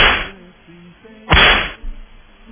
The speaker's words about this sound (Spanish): Lo menos que podemos darles es un par de latigazos.